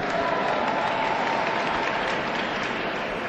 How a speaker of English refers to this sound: Did somebody applaud from Chicago? Where are you?